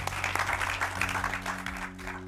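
An audience applauds steadily, with dense, crackling clapping that holds at a moderate level throughout, while a low sustained hum runs underneath.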